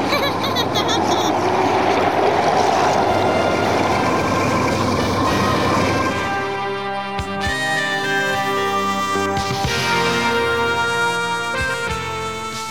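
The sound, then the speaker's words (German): A motorboat engine runs steadily, a loud mechanical drone with rushing water-like noise at first, then settling into a smoother humming tone. No one speaks. “Philipp schaltete nach einiger Zeit den Motor aus und ließ das Boot treiben.”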